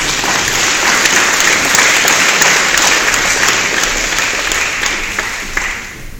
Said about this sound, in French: on peut encore applaudir à Christiane